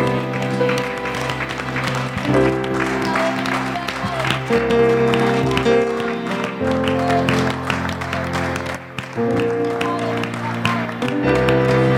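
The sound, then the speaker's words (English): An audience claps steadily and loudly for several seconds, a dense wash of many hands, with sustained organ-like music and some voices underneath. The clapping is a hand clap of praise to God during a worship service. “We thank him with a hand clap of praise in this place.”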